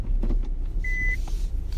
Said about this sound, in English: excuse my beep, you guys, I'm backing into my parking space.